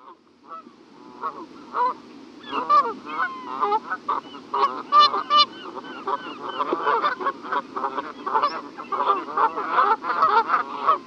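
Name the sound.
canada goose honking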